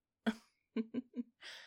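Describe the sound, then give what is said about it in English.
A woman yawns: a breathy voiced onset, three short vocal catches in quick succession, then a soft airy exhale trailing off. Quiet, with no talking. “You like the sounds I make when I yawn?”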